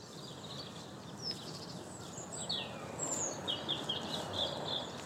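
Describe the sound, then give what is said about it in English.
Birdsong in a park near East Croydon: several high, thin chirps and short trills from a few birds, fairly faint, over a steady background hiss and low rumble. No one speaks. “I've got lots of bird song.”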